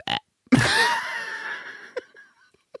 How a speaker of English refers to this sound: All right. Is it out? I had a little burp.